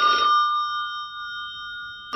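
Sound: telephone bell ringing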